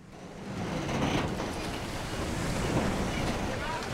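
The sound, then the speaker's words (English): Choppy grey North Sea water sloshes and slaps steadily against the prow of a wooden ship as its timbers groan and it lurches, with a constant rush of wind from a stiff breeze filling a large square sail and no clear pauses. “The timbers of the ship groan as it lurches over the choppy surface of the grey North Sea.”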